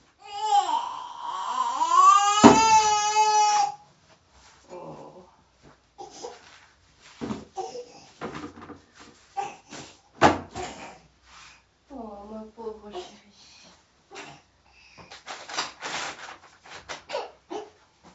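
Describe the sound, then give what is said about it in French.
A baby wails loudly for a few seconds, then scattered clicks, taps and light clatter of a second baby bottle being prepared follow, with brief fussy baby sounds in between. “Préparation d'un deuxième biberon.”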